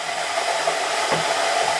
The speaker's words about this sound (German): Du kannst doch nicht mit einem Metallding in eine beschichtete Pfanne. Aber es dampft schon. Der Sesam wird verprügelt.